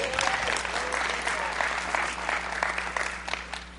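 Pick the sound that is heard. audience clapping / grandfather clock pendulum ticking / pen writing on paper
audience clapping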